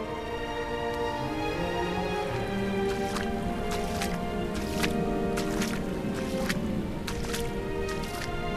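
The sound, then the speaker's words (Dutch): A strong river current washes against a small beach on a riverbank in Holland. A steady rushing wash carries irregular lapping splashes every half second or so, fairly loud throughout. “Een klein strandje aan de oever van de rivier. Er zit een stevige stroming in het water.”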